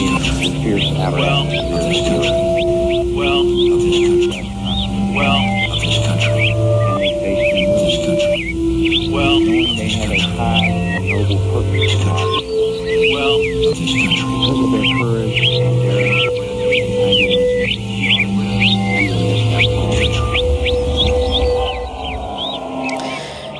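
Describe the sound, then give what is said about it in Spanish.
A dense chorus of birds chirping continuously in the ark, rapid overlapping tweets over a steady bed of low, sustained droning tones, loud and constant throughout. “Pero bueno, ya estáis escuchando a los pájaros piando en el arca.”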